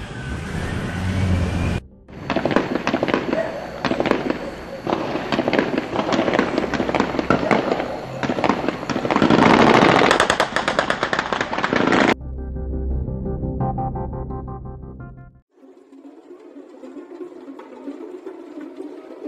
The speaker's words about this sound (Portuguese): Tá rolando tiro e tudo mais, doido. Que porra é essa, doido? Puxa, vai tomar no cu. Olha os policiais correndo, doido. Caralho, tiro pra caralho. Eita desgraça.